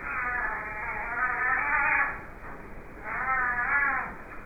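A cat meows twice in long, drawn-out, wavering cries, fairly loud, separated by a brief pause, with no talking.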